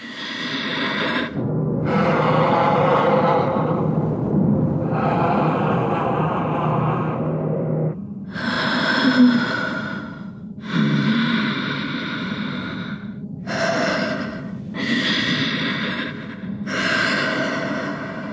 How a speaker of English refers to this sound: Because Osha puts on the helmet. Chimer just leaves. He's like, yep, check it out. Maybe you'd be into it. I don't know. It ends with the spooky, you know, very Vader-like breathing that we hear Osha inside the helmet.